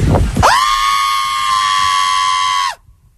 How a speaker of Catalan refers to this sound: No té família, enfada amb la família, ho fa amb la parella, crida al mig del carrer i, escolta, pots tornar a posar el crit?